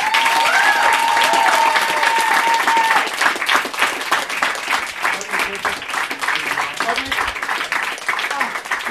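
Steady, loud audience applause as a performer is introduced onto the stage at a show fills the whole clip, a dense wash of many hands clapping, with a brief high whistle-like tone over the first few seconds.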